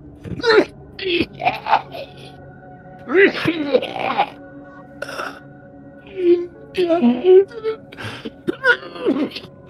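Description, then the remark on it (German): A voice acts out the spluttering coughing fit of a figure who has breathed in a lot of fog and tries to speak, with repeated rough coughs, throat-clearing and groaning sounds in irregular bursts, fairly loud. “Und er öffnet den Mund und atmet erstmal ganz schön viel von dem Nebel ein und versucht zu sprechen, muss dann aber husten.”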